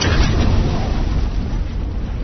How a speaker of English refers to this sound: The rest of her sentence, until we stop those stormtroopers, was silenced by the roar of an incoming concussion missile, and the ravine erupted into an expanding sphere of tumbling stormtrooper parts and bright, blinding light.